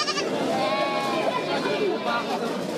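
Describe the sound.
Several sheep bleat repeatedly in wavering, overlapping cries amid a busy, crowded livestock market in Nizwa, Oman, with a constant murmur of voices in the background.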